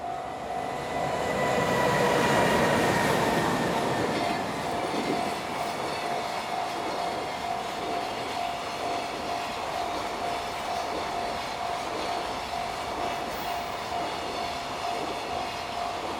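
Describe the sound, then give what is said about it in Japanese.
A freight train heading to Mizusawa Station in Oshu, Iwate Prefecture, Japan, rumbles past on the rails in clear weather, 29°C with a 3 m/s wind: a steady loud roar of wheels with a sustained tonal whine, swelling early then continuing evenly; no voices. “貨物列車が水沢駅に向かいます。”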